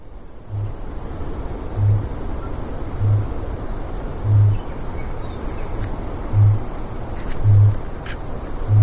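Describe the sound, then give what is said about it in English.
A kakapo, also called the owl parrot, a flightless nocturnal parrot endemic to New Zealand, gives its booming call: about seven deep, resonant low booms repeated at a steady pace, each a short hollow thud rising over a constant hiss of windy background noise. “That noisy was none other than the booming sound that the cockapoo bird makes.”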